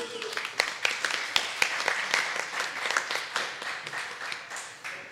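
A small audience claps steadily for several seconds, with dense overlapping hand claps and a few sharper individual claps standing out, at a moderate level with no talking.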